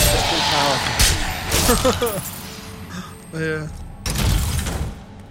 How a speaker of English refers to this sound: Yeah. Ooh, that sounds chunky. That was a door that I opened. That was me breaking barrels.